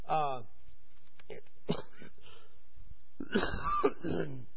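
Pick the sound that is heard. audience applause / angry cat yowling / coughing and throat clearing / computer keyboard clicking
coughing and throat clearing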